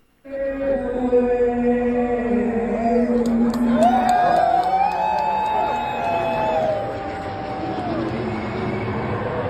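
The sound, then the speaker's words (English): A sold-out crowd at Sutter Health Park in Sacramento roars and cheers continuously at the A's home opener, loud and sustained, with scattered whoops and sliding, rising shouts cutting above the dense wash of voices. “The A's welcomed a sold-out crowd for its home opener.”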